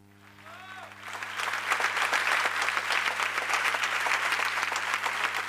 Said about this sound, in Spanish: Esos aplausos son para el lector, en este caso Pipo Lernud, y para los poemas de Vicente Luy. Esto ocurrió, Lucio, el pasado 6 de mayo del 2017 en Usina del Arte, en el concierto Vicente por sus amigos.